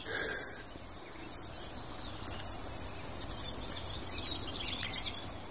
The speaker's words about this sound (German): Also wir hören jetzt zwei Vögel. Auf der rechten Seite von mir aus sowas Plapperndes, Zwitscherndes, Palaverndes. Ja, die Palaver-Grasmücke könnte man auch sagen, ist die Gartengrasmücke.